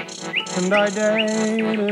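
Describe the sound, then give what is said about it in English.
A liquid, agile bird song with quick rising whistled notes and a strange, almost electronic twang, repeating in rapid phrases, fairly loud, with no voices. “It's a very liquid, mellifluous, quixotic, eccentric, electronic, quite unusual sound. It's not the sweet temptation of the blackbird or the robin.”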